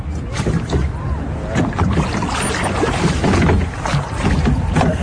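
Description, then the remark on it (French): A small rowboat is rowed under cherry trees, oars dipping with soft, irregular splashes over a steady low rumble of wind and water, fairly loud. “Et avec les enfants, on va ramer sous les cerisiers, tu vois.”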